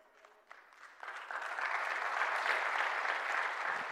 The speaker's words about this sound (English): Now, there were probably some people not clapping because you're going, "Uh-oh, I can't lose this job."